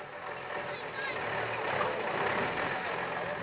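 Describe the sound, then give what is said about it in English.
A truck laden with dried corn idles with a steady low rumble while backing into a distribution point on the UNITA side of the front line in Angola, a continuous mid-level drone with indistinct voices faintly in the background. “A truck laden with dried corn backs into a distribution point on the UNITA side of the front line.”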